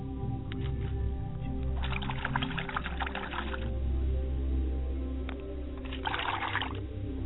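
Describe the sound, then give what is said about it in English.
Water splashes and trickles in two bursts as hands are washed and water is poured as a libation in a ceremony, a longer burst followed by a shorter one after a pause, over a steady low hum with no talking. “And as I wash my hands, I pour libations to the north.”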